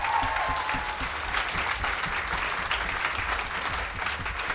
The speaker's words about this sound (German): An alle Produzentinnen und Festival-Crew-Mitgliederinnen vom Puls Open Air. Auch da bitte nochmal klatschen.